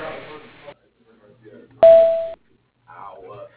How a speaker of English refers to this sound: Please leave a message at the tone, and your call will be returned as quickly as possible.